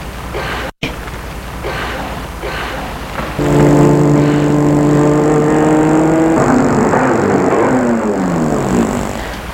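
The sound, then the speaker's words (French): A black Rolls car engine comes in with a steady, loud hum and holds a constant idle, its pitch shifting as it drops back. It sounds like a vehicle pulling up and stopping. No one speaks. “Voiture s'est arrêtée juste à sa hauteur. C'est une Rolls noire.”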